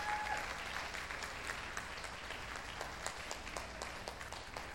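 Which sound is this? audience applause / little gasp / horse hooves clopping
audience applause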